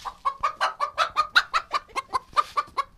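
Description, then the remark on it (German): Chickens cluck steadily in a henhouse, a quick run of about fifteen short, overlapping clucks with no voices. “So, jetzt sind wir hier an so einer Art Hühnerstall.”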